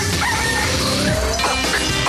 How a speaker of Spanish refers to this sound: El gallo.